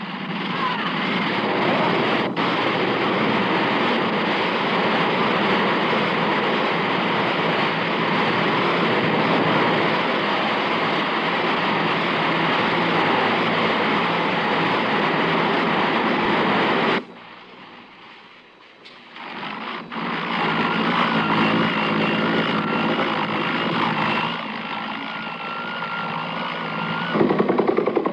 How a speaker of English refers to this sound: the rush of Americans and South Vietnamese to the huge helicopters that landed at various points in the surrounded South Vietnamese capital. There were 81 helicopters like this making runs between Saigon and the carriers and other ships offshore.